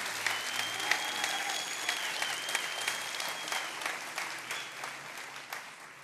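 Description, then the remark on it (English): A crowd claps steadily, dense, overlapping hand claps, moderately loud and sustained for several seconds before gradually thinning out, as the speaker's wife comes up to join him. “and you guys can clap for her as she comes, if you don't mind.”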